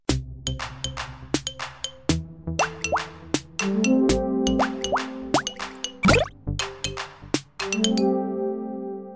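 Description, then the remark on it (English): Water drips steadily into a pool at an outdoor swimming spot in a slight drizzle, a quick irregular series of clear plops, each with a short, bright ringing tone that often bends upward in pitch. No voices are heard. “What a lovely tranquil spot for a dip, and I really love that dripping noise.”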